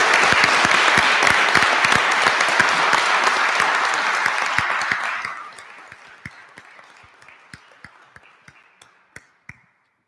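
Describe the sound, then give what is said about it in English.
A roomful of people at a council meeting applauds loudly and steadily for about five seconds in recognition of a high school sports team's coaches and players, then the clapping thins out to a few scattered, isolated claps before stopping. “So if I could just get a round of applause and recognition to the coaches and players.”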